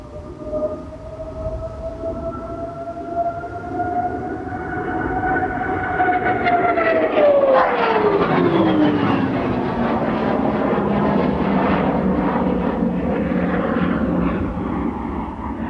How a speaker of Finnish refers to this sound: Tämä menee ilmassa kuin juna suoraan. Tikkanuoli. Tämä on miellyttävä lentää. Se menee, lähtee ripeästi, nousee kuin ampiainen ja menee kovaa.